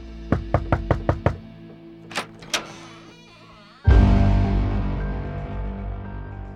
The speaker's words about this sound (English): That's when a knock came at the door.